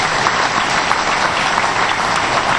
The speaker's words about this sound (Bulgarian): Това се случва наистина за първ път и аз искам тук да поздравим, ръкопляскайте тези, които са написали тая декларация.